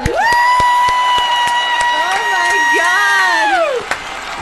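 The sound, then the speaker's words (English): An audience claps and cheers for a performer after a rap performance: scattered sharp claps ring out beneath a loud, sustained high-pitched cheer that holds steady for several seconds before dropping away. “Oh, they're clapping me!”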